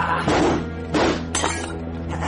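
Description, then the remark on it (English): Glass shatters in a laboratory in a few quick, loud crashes, with brittle tinkling fragments after each, over a steady low background hum; no one speaks. “The sound of glass breaking.”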